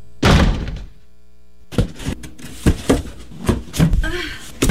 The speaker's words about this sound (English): Don't let that door close.